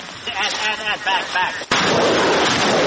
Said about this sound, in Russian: Солдаты бригады имени князя Романа Великого выпускают по противнику полпакета градов и бегут по машинам, менять точку стрельбы